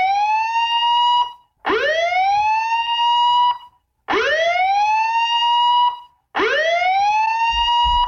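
A loud police siren wails, sweeping upward in pitch and holding, repeated four times with short breaks between each rise. No one speaks.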